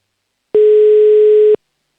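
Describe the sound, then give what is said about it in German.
A single steady telephone ringback tone sounds for about one second, clear and loud, starting and stopping abruptly with silence on either side and no voices, as a phone number is dialled for a call to Upper Austria (Oberösterreich). “Wähle hier schon mal die Telefonnummer. Der Anruf geht nach Oberösterreich.”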